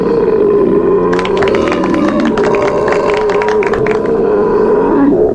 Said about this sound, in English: No, that one was definitely a British belch.